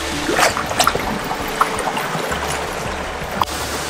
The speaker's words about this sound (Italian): È un posto pazzesco! Neanche in Thailandia, nei luoghi più in Malesia, nei luoghi più esotici del mondo, si riescono a vedere delle gole con un fiume d'acqua che crea poi una cascata di questo genere. Davvero un posto pazzesco, bellissimo!